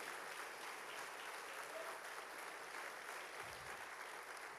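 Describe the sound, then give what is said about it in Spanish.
Sustained applause from a crowd given to God, a dense steady wash of clapping that holds at an even level throughout without pausing. “Dale fuerte ese aplauso a Dios.”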